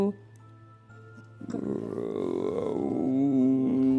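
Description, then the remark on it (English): A voice mimics a house's foundation creaking and groaning, a low drawn-out vocal rumble that swells and wavers for a few seconds, fairly loud, ending on a sustained tone. “groan”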